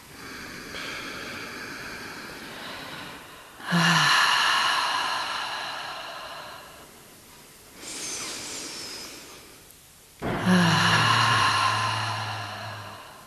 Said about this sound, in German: Gut, bevor es losgeht, einmal tief in deine Fußsohlen einatmen durch die Nase. Und durch den Mund über einen aus den Fußsohlen Wurzeln in die Erde atmen. Schau mal, was du da draus machst. Mach das noch zweimal.